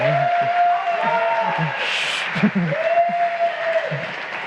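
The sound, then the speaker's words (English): An audience claps steadily for several seconds to welcome a speaker giving a talk on IPv6, a dense, even wash of applause, with a few faint voices and a brief louder burst midway. “But give a really big applause for”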